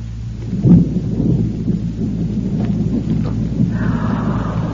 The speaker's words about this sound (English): Oh, my, sounds like a storm blowing up outside, doesn't it, children?